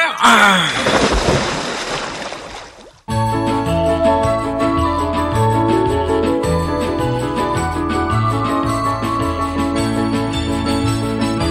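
A servant throws water forcefully onto two statues, one of them of pure gold: a hissing splash bursts out and fades over about three seconds, then a steady music bed cuts in abruptly and carries on.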